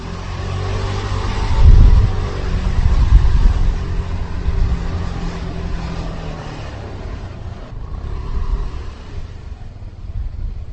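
A motorcycle taxi turns onto the cobblestones of Vinohradská Street, its steady engine drone mixed with a rough, continuous rattling rumble from the bumpy surface, loud throughout, with a brief surge of revving early on.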